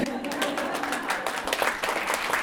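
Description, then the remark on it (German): An audience at a knitting party in a lounge claps steadily, a dense, continuous patter of many hands at an even loudness, with a faint murmur of voices underneath. “Und ich sehe, sie dürfen auch gerne klatschen.”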